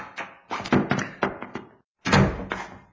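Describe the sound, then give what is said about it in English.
A washroom door slams shut with a heavy thud after a flurry of bumping, knocking impacts, its boom fading out briefly. No voices are heard. “get away from that door and let me out of this washroom.”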